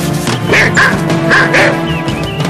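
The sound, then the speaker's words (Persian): A dog that has entered someone's property barks several times in quick succession, loud, with sharp yappy barks repeating in an irregular rhythm. “سگتون وارد ملک ما شده، میشه لطفا ببریدش بیرون؟”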